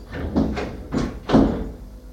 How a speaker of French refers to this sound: Ouvre la porte. Le pousse dehors. Ferme la porte.